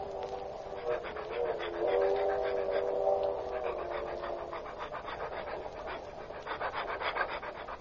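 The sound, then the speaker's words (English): A dog on a leash, being walked down the aisle of a car for a drink, pants in quick, steady, rhythmic breaths throughout, moderately loud, with a low whining tone running underneath for the first few seconds. “You were going down the aisle with your dog?”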